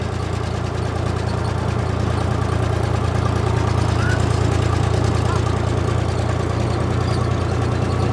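A car engine drones with a steady, low rumble throughout as the vehicle drives onto a meadow among red deer, holding an even loudness with no clear changes in pace or pitch and no talking.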